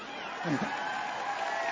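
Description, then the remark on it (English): Audience members seated at tables, including a group of about 50 cousins, cheer in a steady, dense wash of crowd noise, with a brief shout rising out of the din. “There are a bunch of people cheering back there because those nine children moved to a town called Buxton, Iowa, to be coal miners.”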